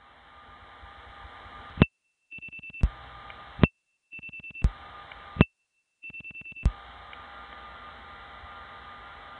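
Telephone dialing tones on a line as the code 556 for Harlem and one more digit, a vacant thousand group, are dialed: quick groups of short beeping tone bursts separated by brief silent gaps and sharp clicks, over a steady hiss of line noise. No one speaks.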